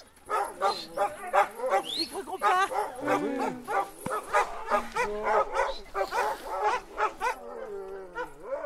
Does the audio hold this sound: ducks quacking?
no